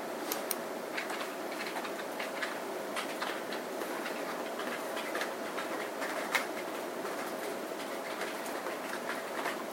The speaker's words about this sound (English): There's a lot of key typing, so people are testing, I think. Because I'm hearing keyboards going.